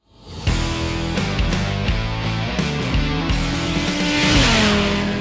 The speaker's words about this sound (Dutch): We starten alvast de motoren om aan de slag te gaan voor de volgende aflevering.